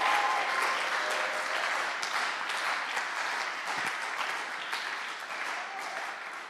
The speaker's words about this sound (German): Und deswegen gibt man einen richtig fetten Applaus für Psalm 92, 13 bis 16.